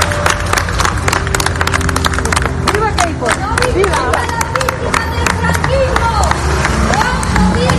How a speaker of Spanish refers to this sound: mientras un puñado de familiares de Queipo aplaudían a la salida del coche que sacaba sus restos de la basílica.